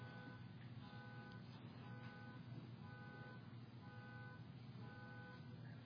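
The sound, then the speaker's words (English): A loud pickup truck idles right outside with a steady low engine rumble, while a repeating tonal beeping pattern sounds over it at regular intervals, like a reversing or alarm signal. “it's the pickup truck right outside.”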